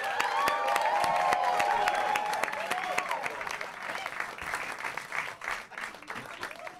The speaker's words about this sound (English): Please go crazy. Clap your hands and welcome to the stage,